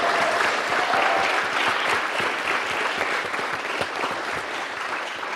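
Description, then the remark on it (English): An audience at a BET event applauds steadily for the men on stage, a dense wash of many hands clapping at once, sustained at a fairly even loudness for several seconds without any talking. “Let's clap it up one more time for the fellas.”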